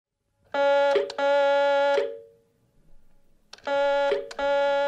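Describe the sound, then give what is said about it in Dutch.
A loud electronic alarm rings in steady, buzzing harmonic bursts: two pulses, a pause of about a second and a half, then the pattern starts again. No one speaks. “Het alarm is het laatste wat ik me herinner.”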